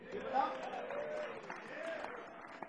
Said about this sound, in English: How about another round of applause for Lightning Guy?